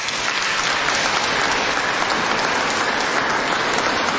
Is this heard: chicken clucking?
no